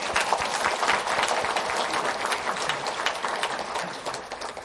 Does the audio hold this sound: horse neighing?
no